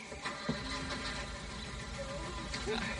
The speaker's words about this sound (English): I'll start the engine.